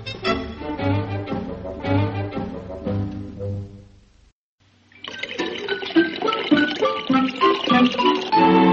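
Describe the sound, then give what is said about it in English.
After a bright musical passage and a brief pause, water pours in a steady, splashing stream for several seconds, fairly loud. “Pouring.”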